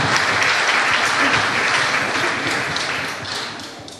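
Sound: audience applause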